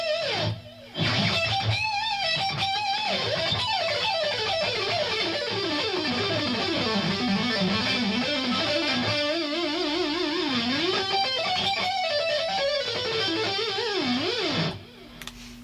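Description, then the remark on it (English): A loud, sustained electric guitar lead tone, switched on with a button press, plays a winding melody with bends and vibrato, thickened by chorus and trailed by echo repeats, heard alone for about fourteen seconds before stopping. “Press another button and I get a real loud lead sound with chorus and echo on it.”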